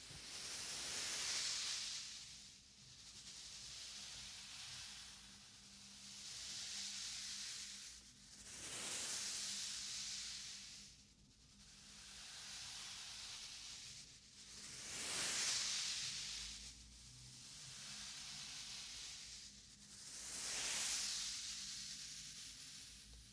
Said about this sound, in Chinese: 是不是很像海浪的声音？